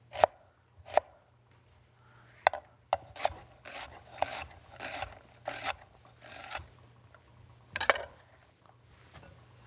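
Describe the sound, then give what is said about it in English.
A knife dices an onion on a cutting board in an irregular series of sharp knocks, mixed with short scraping strokes as pieces slide across the board. No one speaks. “And just dice this up as well.”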